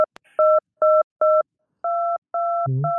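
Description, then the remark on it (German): Telephone keypad tones, like those used to control the TV game Hugo by phone: a click, then three short dual-pitched beeps followed by two longer ones, ending with a brief low buzzy burst before a final tone, all clear with no talking. “Ja, und ich war sehr fasziniert, weil dieses Sachen direkt übers Telefon steuern, das war ja neu, das kannte ich nicht, das war...”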